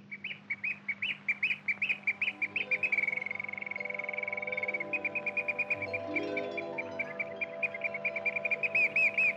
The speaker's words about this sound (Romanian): Privighetoarea cântă mai departe, iar împăratul căzu într-un somn adânc, binefăcător.